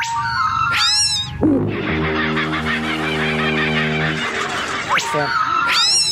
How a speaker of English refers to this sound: Australia bird song's beautiful, isn't it? Oh, my God. When there's no other sound like when you hear that. Warning sound like that. You get five or six kookaburras in a tree, and it is chaos. They're having a great time.